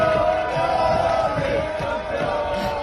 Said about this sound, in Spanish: Este es los gritos de la afición integrada de Antequera. ¡Antequera!